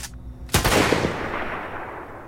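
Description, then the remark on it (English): A single loud rifle shot, a sound effect from freesound.org, cracks out sharply after a brief quiet moment, then its rumbling tail slowly fades away over the next couple of seconds. “From a sound design standpoint here, the drone and the rifle sounds both came from freesound.org.”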